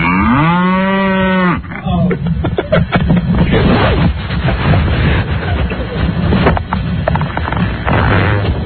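cow mooing

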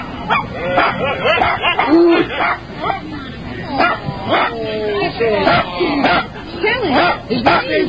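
dog yipping and whimpering

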